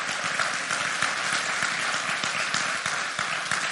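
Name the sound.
audience clapping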